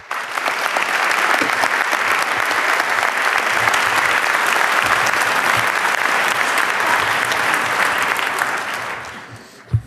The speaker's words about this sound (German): Ja, ich erstmal, wir begrüßen ihn alle mit einem großen Applaus.